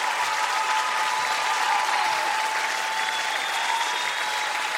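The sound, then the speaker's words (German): Sustained audience applause for the singer's band, a dense steady wash of clapping at an even, fairly loud level throughout, with no clear pauses and no speech over it. “Und zwar übrigens mal einen riesengroßen Applaus an meine Band, oder?”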